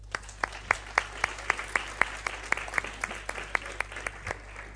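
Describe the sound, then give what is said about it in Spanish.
An audience applauds with a steady patter of claps, about four per second, crisp and bright at moderate loudness, lasting around five seconds without any voices. “Un aplauso a Beni.”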